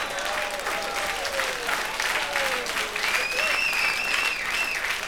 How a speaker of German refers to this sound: Ja, jetzt möchte ich wissen, wofür wir den Applaus jetzt kriegen.